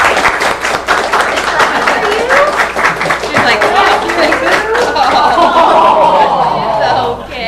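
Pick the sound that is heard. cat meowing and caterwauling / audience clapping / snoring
audience clapping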